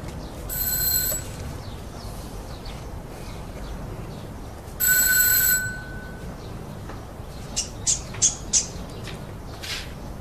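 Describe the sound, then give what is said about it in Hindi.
A doorbell rings twice, each ring a bright steady electronic tone lasting about half a second, separated by a pause; a few short high chirps follow near the end, with no one speaking. “हाँ बिल्कुल, यही जगह है। घंटी बजाओ।”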